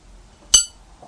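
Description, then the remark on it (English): A single bright, ringing clink of a paintbrush knocking against a jar of water as it is rinsed clean stands out once over faint background hiss. No one speaks. “Right, let's just get a clean paintbrush. Clean this in that water.”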